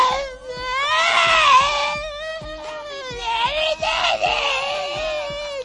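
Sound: voice imitating a cat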